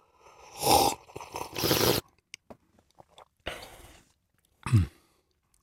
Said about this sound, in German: Und umso mehr Sauerstoff du natürlich in den Mund bringst, umso mehr passiert und umso besser kannst du den Kaffee am Ende bewerten. Dann schlürfe ich jetzt einfach mal. Schlürf mal. Schlürfst du mit mir gemeinsam? Ich schlürfe mit dir gemeinsam.